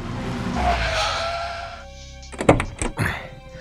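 A car's steady engine and road rumble, on the way to Higashifushimi, fills the first half, then fades, followed by a few sharp thunks like doors shutting.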